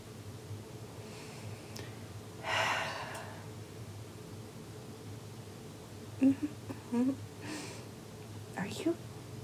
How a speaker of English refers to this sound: Are you breathing on the back of my neck? I mean, your lips are practically touching my neck. I don't think that's your normal breathing.